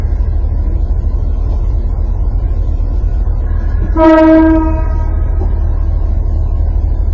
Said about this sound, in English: So just like this train is making some noise, then it will pass.